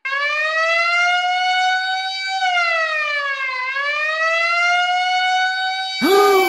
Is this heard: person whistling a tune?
no